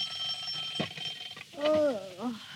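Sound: alarm clock ringing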